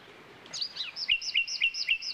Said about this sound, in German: Es gibt aber auch welche unter ihnen, die sich die Nacht um die Ohren schlagen. Ein solcher Vogel ist, wie der Name schon verrät, die Nachtigall. Sie ist ein scheuer Singvogel, den man nur selten zu Gesicht bekommt, dafür aber umso besser hören kann.